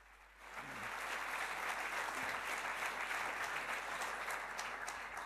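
Audience applause swells up within the first half second and holds as a steady, dense wash of clapping hands, fairly loud and sustained to the end with no voices over it.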